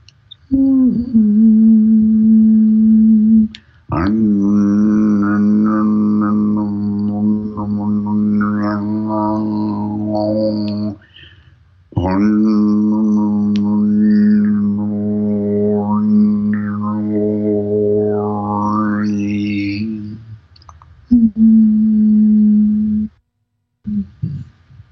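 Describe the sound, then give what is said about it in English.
A voice hums the note of the throat chakra aloud, a steady, sustained low note in four long breaths, with brief pauses between them and faint overtones shifting above the drone. No words are spoken. “So listen for the note of your throat chakra and get it humming consistently in your throat.”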